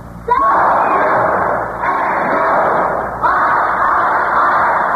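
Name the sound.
students cheering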